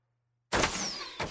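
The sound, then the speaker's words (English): After a moment of silence, arrows from a big arrow attack whoosh past in a sudden loud rush of air, a thin high whistle gliding downward through it, then a second swish cuts in near the end. “All those whooshes.”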